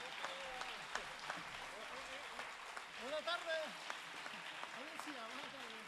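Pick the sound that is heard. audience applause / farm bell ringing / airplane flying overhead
audience applause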